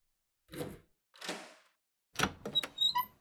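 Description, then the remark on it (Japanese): A key rattles and turns in the lock of a room door in a church deep in a forest, with a couple of metallic clicks, then the door creaks open with a brief squeak and clunk, fairly loud, with no voices. “この部屋ね。”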